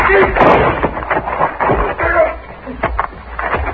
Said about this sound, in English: Rifle went off when I knocked it aside.